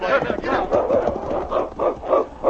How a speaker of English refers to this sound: It sounded like a dog barking.